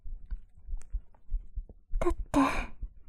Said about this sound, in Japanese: 心臓ドキドキしてる。